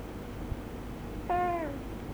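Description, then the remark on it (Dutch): A single short cat meow, slightly falling in pitch, rises briefly out of a low, steady background hum; no one speaks. “De poes speelt ermee.”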